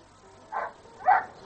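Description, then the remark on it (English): A dog gives two short barks, the second a bit louder, with a brief pause between them over a quiet background. “What is it, boy? Doggy.”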